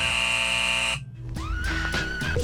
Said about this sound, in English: Oh, where's the buzzer?